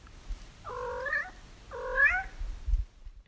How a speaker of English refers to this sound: And there's the cats.